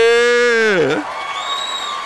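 A drawn-out vocal whoop that swoops down in pitch, followed by a steady wash of audience applause and crowd noise that continues to the end.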